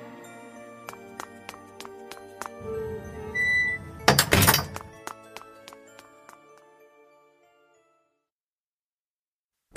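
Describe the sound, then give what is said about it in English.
A side door opens and shuts, with a series of sharp knocks and clicks, a low creaking rumble, and a bright rattling burst midway, then metallic ringing tones fading into silence. “I'll have to sneak out the side door.”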